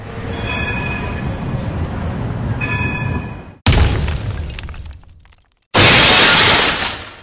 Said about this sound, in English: The ensuing explosion shook the tram passing by, shattering its windows, throwing glass upon its passengers.